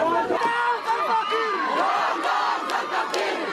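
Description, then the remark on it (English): A large crowd of protesters at a camp for refugees displaced by civil war in South Sudan shouts and yells loudly in unison, dense overlapping voices rising in angry chanting waves with sharp cries cutting through, continuous throughout. “The crowds of protesters were so angry and so big, and they would not be talked down, and so the ambassador had to be evacuated, and police with tear gas were called in to disperse the crowds.”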